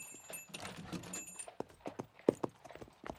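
Horse hooves clip-clop at a steady walking pace, a string of sharp hoofbeats ringing out clearly, with a faint metallic jingle underneath near the start.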